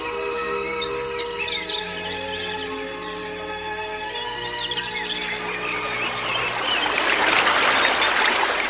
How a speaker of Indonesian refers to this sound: Iya, sungai bebatuan itu airnya jernih.